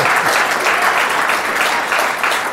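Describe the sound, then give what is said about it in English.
Steady applause from an audience, a dense rush of many hands clapping at an even, sustained loudness throughout, with no voices standing out above it, in response to the statement that President Obama is one of the greats. “Yes, if he clap had for that, please.”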